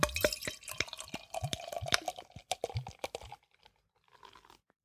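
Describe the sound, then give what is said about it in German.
Beer brewed in Aberdeenshire, Scotland, glugs and splashes into a glass for about three seconds, a fairly loud pour with a bubbly, gurgling rhythm, then a soft fizzing as the foam settles. “Bevor du mir nämlich auch so ein Foto von mir schießt, wo ich an der Flasche rieche, gieße ich mir das Bier mal lieber in ein Glas.”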